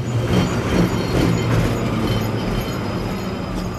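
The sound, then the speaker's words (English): A number 38 tram carrying commuters trundles along a street in Moscow in the morning with a steady, continuous low rumble and faint metallic rattling, no voices, its loudness holding even throughout. “The number 38 tram was trundling along as normal, transporting bleary-eyed commuters.”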